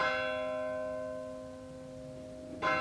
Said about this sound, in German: Dieser Glockenschlag ist auch schon wieder eine Viertelstunde rum